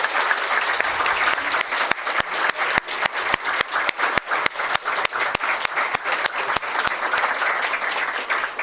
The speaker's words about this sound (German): Ich würde euch ja Applaus geben, aber es klingt so ein bisschen traurig, wenn ich als Einziger hier applaudiere. Deswegen gebt euch auch selber Applaus.